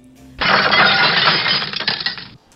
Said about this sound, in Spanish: Eso me suena a vidrio, pero a vidrio roto además.